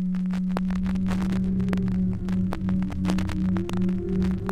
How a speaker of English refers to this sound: Number six, beats. 200 hertz sine tone added to 203 hertz sine tone, producing beat, difference tone of 3 per second.